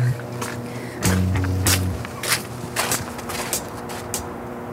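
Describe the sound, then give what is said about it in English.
A low, steady electrical buzz from the Moses Saunders Dam, a hydroelectric dam on the St. Lawrence River built in 1958, drones throughout, heard from a catwalk outside Hawkins Point, overlaid by irregular crunching bursts like footsteps on ice and some wind noise. “And that buzzing in the background that you can hear is the Moses Saunders Dam, which was built in 1958, joint project between the two countries”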